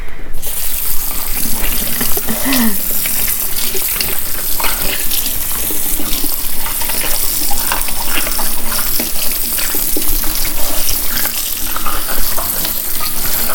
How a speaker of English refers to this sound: I'm washing the bell pepper now.